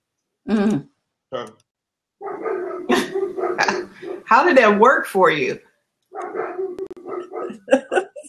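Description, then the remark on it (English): A female dog lets out a couple of short, sharp barks at the start, then people talk while the dog stays quiet. The dog has been put in a cage. “Your dog seems upset with you.”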